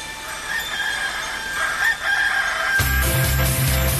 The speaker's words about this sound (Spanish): Son gallos. Son gallos.